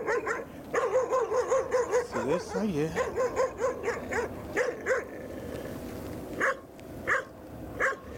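A dog yelps and whines in quick, rhythmic bursts with a wavering pitch, then lets out a few separate sharp barks after a short pause. The sound is fairly loud.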